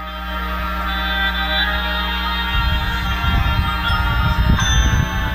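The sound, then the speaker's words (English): Bright, ringing tones of bells or crotales played by a band's front ensemble sound within a sustained, layered ensemble texture, with low rumbling percussion joining about halfway through and the bells continuing over it. “With the bells or crotales that we have going on in there.”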